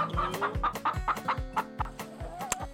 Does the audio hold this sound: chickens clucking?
yes